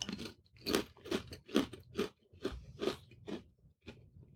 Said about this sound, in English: Let me clear my palate with a little cracker.